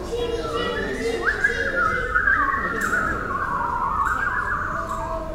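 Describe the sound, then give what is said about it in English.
Several children's voices imitate birds, making high, wavering whistle-like bird calls together, a steady overlapping chorus of chirps and trills with gliding pitch that continues without a break. “Okay, what kind of sound do the birds make?”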